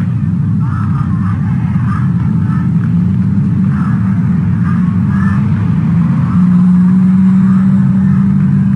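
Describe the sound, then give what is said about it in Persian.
A steady, loud low engine rumble drones throughout, like a vehicle travelling along the Kermanshah road during a nationwide truck drivers' strike, with a slight rise in tone near the end and faint indistinct voices in the background. “جاده کرمانشاه با کامیران اتصاب سراسری کامیون دارم.”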